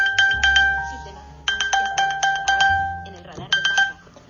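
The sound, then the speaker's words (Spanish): A phone's find-device alert, triggered with the play-sound function to locate a misplaced phone, rings out in loud, repeating bursts of bright electronic chime tones, sharp metallic pulses in quick succession with brief gaps between groups, over a low hum. “Si yo le doy... Reproducir sonido.”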